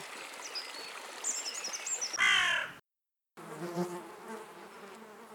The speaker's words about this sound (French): Ah, les abeilles. Ces créatures si fascinantes ont toujours su piquer au vif l'attention des hommes.